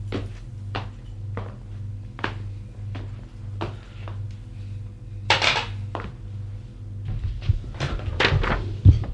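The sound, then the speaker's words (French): Evenly spaced footsteps or knocks, then a brief scrape and a cluster of wooden thuds and clatter as a police commissioner settles into a chair at his desk in a tiny office with a table, typewriter and chairs, over a steady low hum. “L'homme va s'asseoir à son bureau.”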